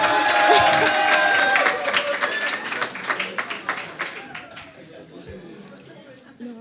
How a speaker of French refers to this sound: Des applaudissements pour lui, s'il vous plaît.